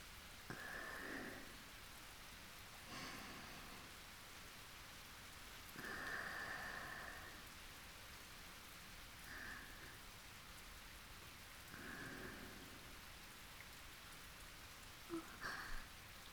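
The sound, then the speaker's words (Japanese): Steady rain falls continuously across the whole stretch, outdoors where it has put out a campfire, a soft hiss of drops hitting surfaces with occasional brief louder patters and splashes. No one speaks. “気づいたら雨が降って焚き火の火消えちゃったね。”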